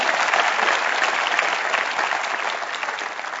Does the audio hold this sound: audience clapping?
yes